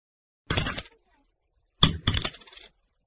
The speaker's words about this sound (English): We must put 2 coins in the slot. I'm glad that I've got some small change.